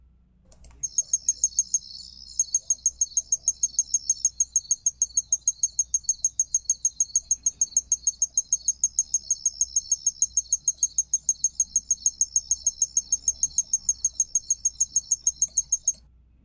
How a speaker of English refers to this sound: How many of you guessed what that was? That's called a tinkling ground cricket. And you could hear it's a little bit musical. I love that sound.